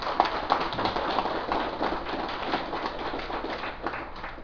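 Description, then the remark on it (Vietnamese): An assembly at a Buddhist dharma talk claps steadily for several seconds, a dense, even patter of many hands that stays at a constant level from start to finish with no voices on top. “Thành vì vậy, đề nghị đại chúng vỗ cho một tràng pháo tay.”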